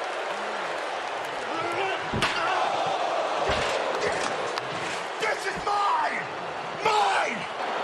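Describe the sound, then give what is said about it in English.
Several sharp, loud smacks of a steel chair as Edge strikes Daniel Bryan during a Universal Championship match, spaced a second or so apart, over a roaring arena crowd with voices shouting throughout. “Edge clocking Brian with a chair.”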